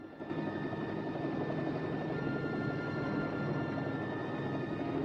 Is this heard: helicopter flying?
yes